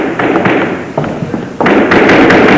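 Rapid, insistent knocks thud against a door in uneven bursts, loud, with several quick blows in a row and a short pause before they grow heavier.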